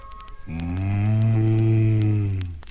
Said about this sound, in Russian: Вздохнула корова за рекой.